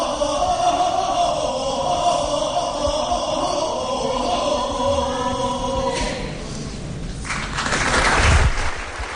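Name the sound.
church audience applause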